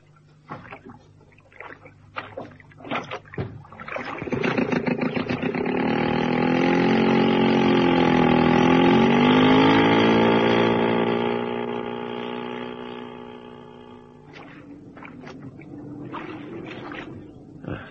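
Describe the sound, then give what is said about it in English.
A motorboat engine on a lake in the late afternoon starts up and roars steadily for several seconds, its pitch bending slightly before it fades back down, with brief clattering sounds before and after. “Well, now that you're both dressed in skins, we'll go to the boat.”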